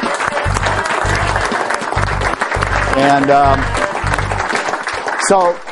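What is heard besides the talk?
audience applause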